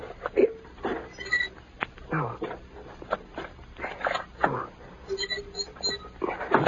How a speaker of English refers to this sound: First, must disconnect wire so car not start easy.